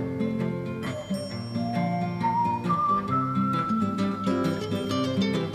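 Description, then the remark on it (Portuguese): Long, smooth whistled notes glide and sustain like bowed strings, rising gently, over a steady plucked acoustic guitar accompaniment played by the whistler, with no talking. “aquela gravação clássica que ele tocando seus violões, ele faz aqueles assobios que ele faz como se fossem umas cordas.”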